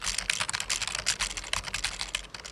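A man types a long, complex password from muscle memory on a computer keyboard set in front of him by detectives: rapid, steady clicking of keys, continuous, with dense irregular taps filling the whole stretch and no voices.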